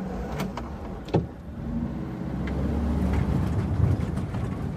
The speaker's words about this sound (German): Der VW-Bus holpert unter alten Eichen und Lindenalleen entlang.